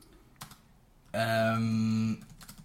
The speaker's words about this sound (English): Sorry, I'm typing here and I can't multitask.